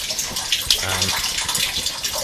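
A steady, hissing stream of urination from a person holding a guitar splashes continuously for a couple of seconds, with a brief low humming tone rising underneath midway through.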